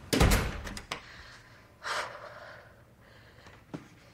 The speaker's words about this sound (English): Smile frozen on her face, Leah closes the door.